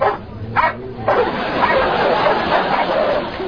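dogs barking

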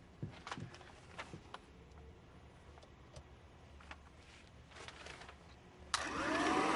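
vacuum cleaner running

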